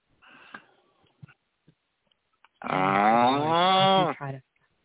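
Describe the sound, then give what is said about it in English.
A person gives a long, loud, wavering moo in imitation of a cow, about a second and a half of sustained voiced lowing, preceded by some soft breathy noises and faint clicks. “You do that cow way too well.”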